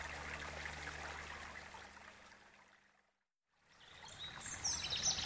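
Steady trickling water from melted ice babbles continuously, cuts out briefly mid-clip, then returns with a few bright bird chirps in the background. No one speaks.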